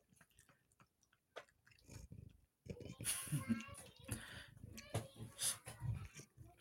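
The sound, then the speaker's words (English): Loud crunching of hard treats being chewed, a quieter stretch of scattered crunches giving way to a dense, continuous run of crackly bites and mastication. “Are these treats crunchy enough for y'all?”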